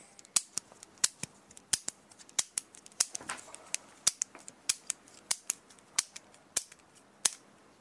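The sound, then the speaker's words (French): A four-colour ballpoint pen clicking over and over, sharp plastic clicks arriving in a brisk, slightly uneven rhythm, about a dozen of them with no voices. “C'était le stylo préféré des jeunes, le célèbre stylo 4 couleurs.”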